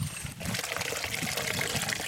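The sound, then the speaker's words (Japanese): A small stream in a park flows steadily beside a paved path, its water level settled back to normal after heavy snowmelt. Continuous babbling and trickling water fill the air at an even, moderate level with no voices. “舗装された道の隣で小川が流れていますね。”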